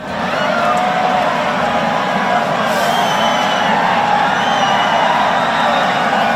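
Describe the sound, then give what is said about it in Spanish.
A dense crowd at the Tomatina tomato-fight festival in Buñol roars and cheers steadily, with scattered shouts and whoops rising above a continuous wash of many voices, loud and unbroken throughout. “Es el sonido de la tomatina de Buñol, donde está todo ya preparado para que a las 12, en muy pocas horas, comience la batalla más roja y menos cruenta del planeta.”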